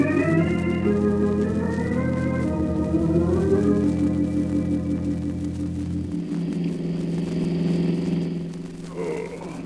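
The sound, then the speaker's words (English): A car engine drones steadily, its low rumbling pitch climbing as it accelerates and then settling into a constant hum as the vehicle keeps driving, with no voices. “What am I doing in this car? Where are we going?”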